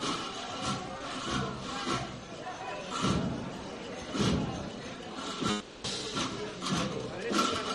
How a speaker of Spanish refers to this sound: Cajas chinas de los tambores son las que marcan el ritmo para que no pierdan el compás los costaleros, pero se trata de no hacer mucho ruido para que se pueda oír la voz del capataz.